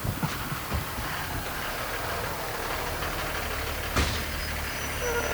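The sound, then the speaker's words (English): A bus arrives and idles with a low, steady engine rumble, punctuated by a sharp hiss like an air brake releasing partway through. No one speaks. “Oh, and here comes your bus.”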